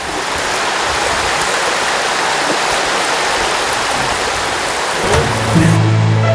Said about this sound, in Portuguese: É tão pura que pode até beber. Ela nasce aí em cima da serra e vem descendo pelo meio da vegetação e aqui começa a formar uma das cachoeiras. É o Riacho das Neves.